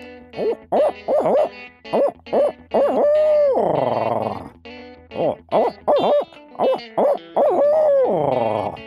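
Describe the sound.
A man imitates a barred owl call with his natural voice, giving two rhythmic series of loud hoots, each ending in a long, drawn-out descending 'hoo-aw'.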